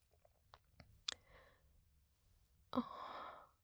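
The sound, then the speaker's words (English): Heavy, close breathing: a few faint clicks and a soft breath, then one loud, rough exhale rushes out and slowly fades, with no talking. “Why are you breathing like that?”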